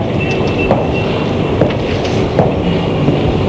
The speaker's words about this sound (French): qui entendait le sifflement des trains, des cris, les rires des voyageurs. On voyait les gens s'embrasser, se serrer la main, monter, descendre des trains.